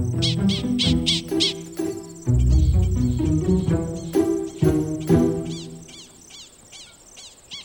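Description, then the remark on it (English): Prairie dogs bark, squeak and chirp in a rapid burst of sharp, high-pitched calls, several repeating in quick rhythm over a rustling, lower background, then fading to fewer, fainter chirps. “But could these barks, squeaks, and chirps really be a language?”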